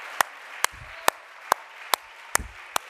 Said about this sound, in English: Let's all clap our hands for the Holy Ghost. Hallelujah.